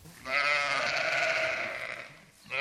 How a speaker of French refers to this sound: parvenus au sommet du Mont Hubert ce matin, les 500 moutons seront répartis donc dans les pâtures.